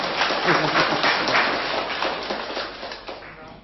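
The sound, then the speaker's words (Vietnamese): An audience claps steadily for several seconds after the speaker asks for a round of applause, a dense crackle of many hands that gradually softens toward the end, with no one speaking over it. “Đồng ý, ai đồng ý giơ tay lên dũng cảm coi, cho tràng pháo tay.”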